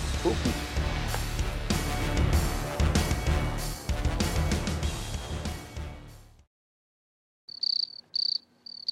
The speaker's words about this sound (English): Ooh. Hear that? Yep. Ooh. Sound of crickets.